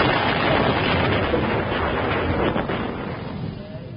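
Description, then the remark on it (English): A landmine in a minefield explodes in a loud, rumbling blast that blows Rommel's small black box up in the air, its broad crackling noise holding steady for a few seconds before gradually fading away, with no voices. “People with television sets will see that the explosion blew Rommel's small black box up in the air, and it lands on...”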